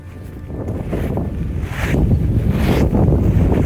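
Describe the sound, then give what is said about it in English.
Strong wind buffets the microphone in a continuous low roar as people walk over gravel through a graveyard, growing louder and more turbulent partway through, with gusty surges and no voices. “It was incredibly windy and you've got gravel crunching under you.”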